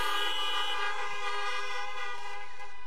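Several car horns from people gathered in their cars honk together in a sustained, overlapping blare, loud and steady at first, then fading a little toward the end, with no voices.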